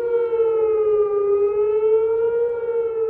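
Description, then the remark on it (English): A loud, sustained air raid siren at Kandahar Air Base, Afghanistan, wails steadily to warn of incoming Taliban rockets, its pitch drifting slightly up and down as the tone holds throughout, with a faint low rumble beneath and no voices. “Air raid sirens go off frequently at Kandahar Air Base to warn of incoming Taliban rockets.”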